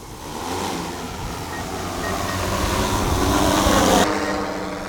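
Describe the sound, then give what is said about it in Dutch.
A drone lifts off and flies at about 35 meters up, used to search fields for nests; its steady motor whir and broad rushing buzz swell louder over several seconds before the high hiss drops away abruptly near the end. No one speaks. “En vliegt hij in de regen? Hij vliegt ook in de regen.”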